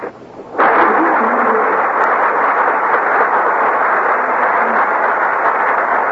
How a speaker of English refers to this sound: That applause means our stars have made their appearance on the Gulf Theater stage.